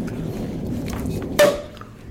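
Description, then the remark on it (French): A pressurized bottle is opened with a single sudden, loud burst of hissing release lasting a fraction of a second, then fading, over a steady low background murmur. “Oh la vache, il fait du bruit, celui-là. Il y a de la pression.”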